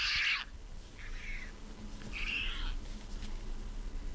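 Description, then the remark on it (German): A recording of a white pelican call plays three short, raspy, high-pitched cries spaced about a second apart. The first is loudest and the later two are softer, with a low background rumble between them. “Wie macht ein Pelikan?”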